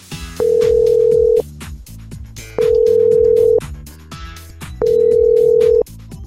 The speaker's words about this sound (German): Darum wähle ich hier gerade mal ihre Nummer.